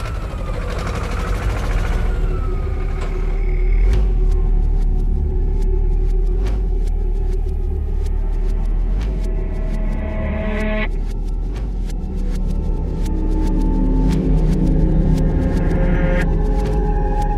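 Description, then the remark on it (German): A tractor engine rumbles steadily, a heavy low drone with faint tonal whines and occasional clicks riding over it, continuing without a break and with no voices. “Habt ihr was gehört? Nein. Da. Die Lichter. Wo? Der Traktor.”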